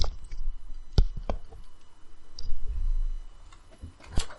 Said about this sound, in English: There is a knock at your cabin door.